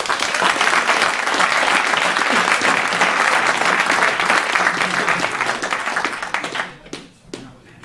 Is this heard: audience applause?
yes